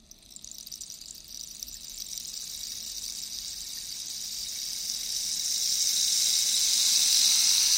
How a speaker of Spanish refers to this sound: Después lo llenan de semillas y cuando las semillas van chocando con las púas del cactus va imitando el sonido de la lluvia.